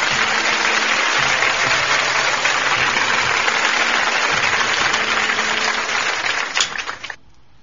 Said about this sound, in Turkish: Şöyle kocaman bir alkış gönderelim o güzel yüreğine.